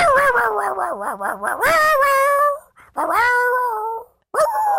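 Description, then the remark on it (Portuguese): A female dog howls in long, wavering, melodic tones that rise and fall almost like singing, with three drawn-out howls separated by brief pauses and no one talking. “Olha esta cadela.”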